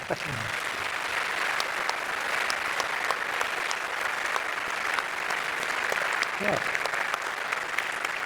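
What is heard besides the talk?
audience applause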